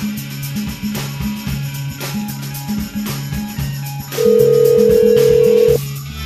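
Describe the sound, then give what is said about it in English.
A telephone line rings with a repeating pattern of low alternating electronic tones while a caller tries to reach the Acacia Boutique Hotel. A louder steady tone then holds for over a second before the pattern resumes; no one picks up or speaks. “Well, I first of all, like, I'm calling and it's ringing, ringing, ringing. No one pick up.”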